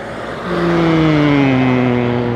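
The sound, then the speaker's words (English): A car drives past on James Street in Covent Garden, its engine hum swelling in and then sliding gradually lower in pitch as it goes by, loud, with no voices. “There's a car about to go past.”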